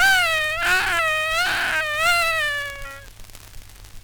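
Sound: child crying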